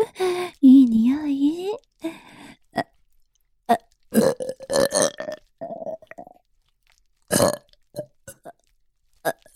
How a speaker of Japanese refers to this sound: 出た。どう？ママのミルクゲップ。